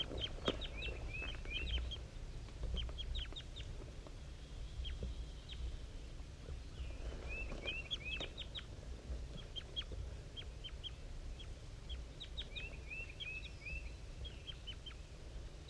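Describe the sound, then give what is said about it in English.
Two birds, one called 5-3 and a wild bird, trade repeated calls at 7:50 a.m. up in the top of a dead pine. 5-3 is slightly higher pitched than the wild bird. They call in bursts of short chirps and quick rising notes over a steady low rumble, with no talking. “and 5-3 and the wild bird are communicating here. 5-3 is a little bit higher pitched and the wild bird is a little bit lower.”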